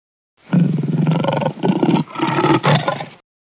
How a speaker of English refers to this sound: A lion roars.